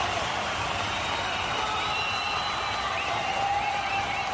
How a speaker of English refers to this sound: There are 50,000 screaming fans here. I said somebody scream!